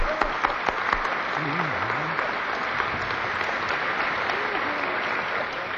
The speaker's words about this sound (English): Oh, you sang pretty. I'll clap for you.